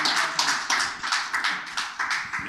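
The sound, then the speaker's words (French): An audience at an evening book-world event applauds the man who will present the evening, many hands clapping together in a dense, bright wash with a loose rhythmic pulse of roughly three beats per second. No one speaks over it. “Que je vous demande d'applaudir parce que son travail est très méritant.”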